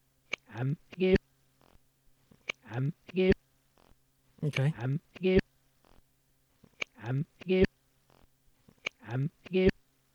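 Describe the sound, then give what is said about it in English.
The spoken words "Big Mac" played backwards, repeated about four times with pauses between, each ending in an abrupt, sharp cutoff. The garbled, reversed syllables swell up and snap off unnaturally. “Okay, so reverse, that sounds like this.”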